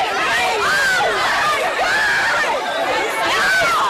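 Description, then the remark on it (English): A dense, noisy crowd of shoppers shoves and stampedes over Sherpa jackets during Black Friday sales in a Victoria's Secret Pink store in Chattanooga. Many voices overlap in loud, excited chatter with occasional raised shouts, continuous throughout. “Look at this crush of shoppers in a Chattanooga Victoria's Secret pink store. The stampede over Sherpa jackets, people seen shoving each other, one sales rep climbing on a table to escape the crowd.”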